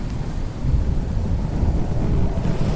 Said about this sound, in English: But September weather in Cleveland isn't as predictable as the weather at Disneyland. The night before the big release, a sudden storm blew in.